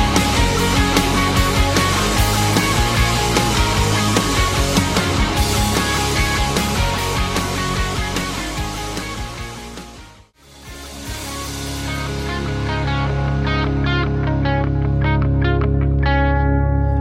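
A new band's single plays on the radio, loud and dense, with distorted, effects-heavy guitar over a steady beat, dropping out for a brief moment midway before the full arrangement comes back in.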